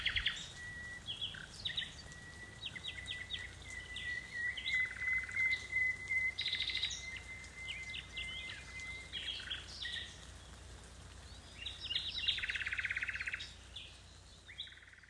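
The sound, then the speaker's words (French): A nightingale in Montpérou sings alone in varied phrases of clear whistles, rapid chirps and a long sustained note, over a faint steady background hiss. “Écoutez pendant quelques secondes le chant d'un rossignol.”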